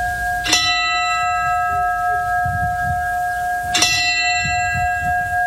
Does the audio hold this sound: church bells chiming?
yes